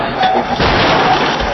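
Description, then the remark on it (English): A loud car crash: a dense burst of crunching, grinding impact noise with a harder hit partway through, filling the whole short moment without any talking. “Car crashes. Head-on, side impact, or rear-end collisions.”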